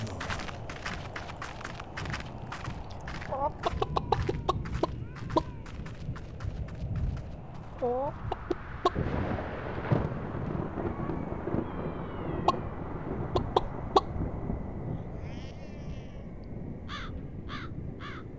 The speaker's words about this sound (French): Une poule. Ouais, une poule. Comme celle-là, par exemple. Non, mais d'où sort cette poule?